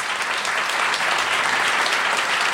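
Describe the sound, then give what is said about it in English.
A crowd claps in answer to an audience poll on whether they have watched the video, a dense, even wash of many hands striking together, loud and sustained for the whole stretch with no voices on top. “I would like to find out by audible clapping if you have watched the video or not watched the video.”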